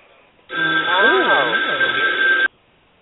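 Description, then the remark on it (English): A telephone rings for about two seconds with an incoming call to a radio call-in show from a caller in Virginia: a thin, tinny sound with a steady high whine and wavering lower tones, starting and cutting off abruptly against near silence. “We have a call from 757-582. You're live on the air.”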